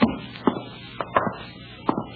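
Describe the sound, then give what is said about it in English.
A window blind or shade in a bedroom knocks against the wall in a loose, irregular run of about six dull taps, some in quick pairs, with no voices. “Sounds like the window shade or a blind banging against the wall.”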